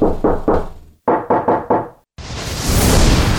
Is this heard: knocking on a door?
yes